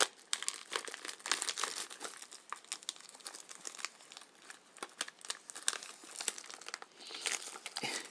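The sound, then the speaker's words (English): Continuous crinkling of sealed paper packaging being handled while trying to get an item out of it, with dense irregular crackles and rustles throughout, occasionally sharper snaps, and no one speaking. “Oh, for pity's sake, how on earth did you get this thing out? I'm going to have to rip it in a moment.”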